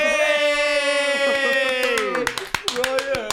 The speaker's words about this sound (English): Started my own clap there.